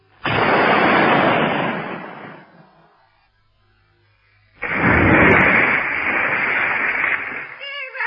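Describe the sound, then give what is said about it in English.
Two loud cannon shots fired as a salute ring out a couple of seconds apart, each bursting in suddenly and roaring on as a broad, rumbling blast for two to three seconds. “It's time to fire a salute.”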